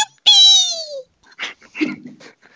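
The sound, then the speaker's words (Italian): A single loud, desperate wailing cry, drawn out for about a second and sliding downward in pitch, followed by a few quieter scattered sounds. “Questo è la tua reazione, giusto? Sì. Pianto disperato.”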